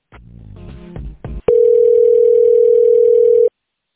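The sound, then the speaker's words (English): A phone line rings during a call transfer: after a short burst of muffled line noise, a single loud, steady ring tone holds for about two seconds, then cuts off abruptly. “All right, let me transfer you over, okay?”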